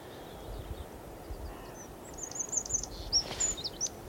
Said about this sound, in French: C'était le début du chant du troglodyte mignon, ça.